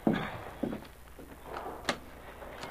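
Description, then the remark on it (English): The door of the largest cabin on a boat opens with a soft clunk of the latch, a creaky rattle as it swings, then a sharp knock of wood near the end, with no voices. “Let him in, somebody. Yeah, I will.”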